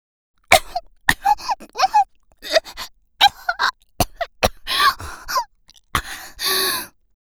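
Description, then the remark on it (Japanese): A vocal fit of repeated harsh coughs and choked gasps in irregular bursts, ending with a longer breathy, sputtering expulsion as a person coughs and spits semen out of their mouth in disgust. “私は精液が口の中に入ってる嫌悪感から咳込んで吐き出しました。”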